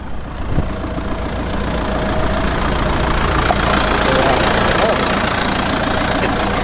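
A farm tractor engine runs with a steady, loud, rumbling drone that holds unbroken for several seconds as it heads off to feed the dry cows on the lease block, its low chugging idle filling the whole recording.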